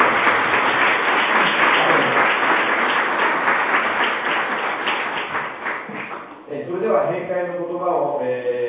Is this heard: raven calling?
no